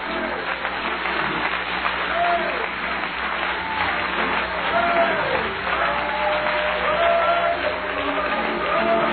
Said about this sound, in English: Let's stand and clap our hands to the Lord tonight. Can we do that right now?